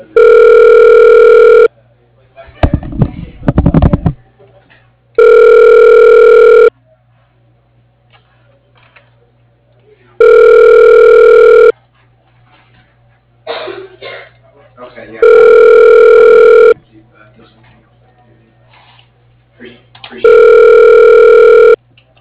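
A telephone rings on the line five times while a call to the Carnegie is being connected, each steady electronic burst lasting about a second and a half and separated by longer pauses, with brief clicks and rustling noises in between.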